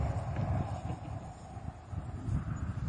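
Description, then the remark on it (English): Horse hooves walking at an unhurried pace as the horse is led on a rope, a steady series of dull thuds on soft ground, with a light breeze rustling in the background and no one talking. “I don't teach a horse to follow me. I'm teaching a horse to follow the rope.”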